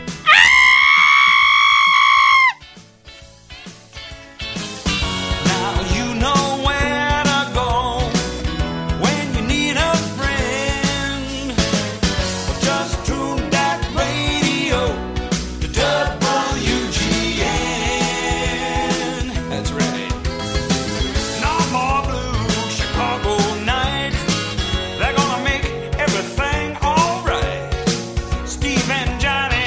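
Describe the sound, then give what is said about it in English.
A single loud, sustained scream with a wavering pitch, from a person screaming out an open window, lasts about two seconds, then breaks off as busy, full-band music begins and carries on to the end. “And if you're wondering why this week's scream wasn't quite as intense or long as last week's”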